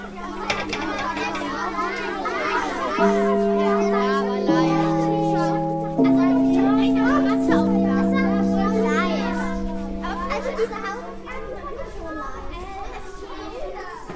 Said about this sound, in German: Wollt ihr wissen, wie es an unserer Schule klingt? Dann Ohren auf und los geht's! Gerade komme ich zur Schule. Es sind schon viele Kinder da. Gleich kommt der Gong.